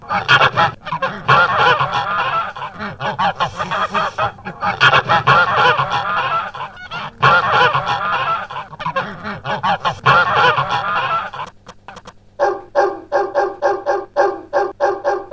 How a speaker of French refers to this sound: Tout à coup, on entend le cri des oies.